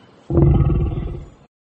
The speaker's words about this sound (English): Is it a monster?